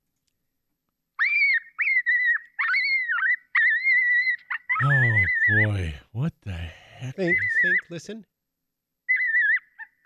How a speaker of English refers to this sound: Is that some kind of bird in distress? No, that was a coyote pup in distress. Oh, coyote pup. Yep, pup in distress.